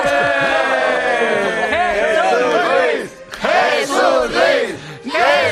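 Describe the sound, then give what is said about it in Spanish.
A large crowd cheers and whoops loudly, many voices rising and falling together in a continuous roar, with a brief dip before the cheering surges again. “Gracias por estos aplausos que tanto me estimulan,”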